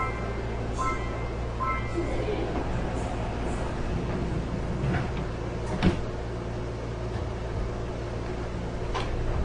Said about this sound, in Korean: 출입문이 닫힙니다.